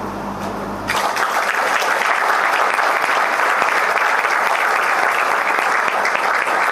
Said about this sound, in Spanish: Les pido un fuerte aplauso para todos los que hicieron posible este proyecto.